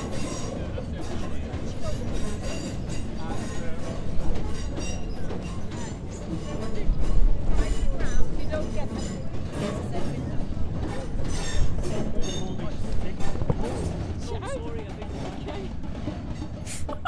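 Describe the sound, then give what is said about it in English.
A train rolls past with a continuous heavy rumble and metallic clatter of wheels, swelling louder through the middle before settling back to a steady roar. “Now you get to shush so we can hear lovely things like trains instead of you yakking into the microphone.”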